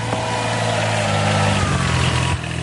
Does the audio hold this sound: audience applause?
no